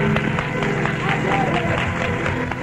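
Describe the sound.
A church audience claps along in a steady, brisk rhythm as the preacher calls on them to clap their hands, the many hands blending into a loud, dense patter with a murmur of voices mixed underneath.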